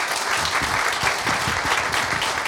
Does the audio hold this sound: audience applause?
yes